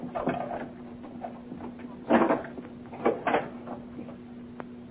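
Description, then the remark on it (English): A key rattles and turns in the lock of a hotel room door, followed by the door being opened, a few short clunks and scrapes over a steady low hum. “Use the key he gave us.”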